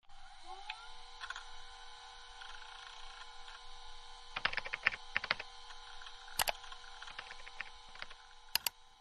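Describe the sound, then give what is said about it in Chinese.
Laptop keyboard typing as someone searches the internet, a quick cluster of crisp key clicks midway, then a couple of isolated keystrokes, all over a steady low electronic hum with no voices. “来，打开我的笔记本，咱们好好搜索一下。”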